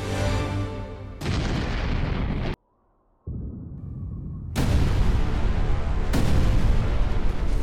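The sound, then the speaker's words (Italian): Deep, violent explosive roaring from a volcanic eruption, loud, with heavy low rumble that cuts out briefly, returns softer, then surges back even stronger. No voices. “Una violenta esplosione darebbe inizio ad una colonna eruttiva, cioè una nube composta da gas mischiati a roccia polverizzata e cenere che si espanderebbe verso l'alto.”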